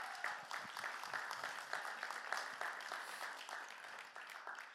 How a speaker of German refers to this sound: Wunderbar, ihr habt ein tolles Pastoren-Ehepaar. Gebt ihnen nochmal einen Applaus.